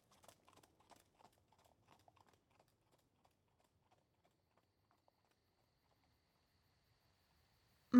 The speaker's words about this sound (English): Yeah, I fed the horses.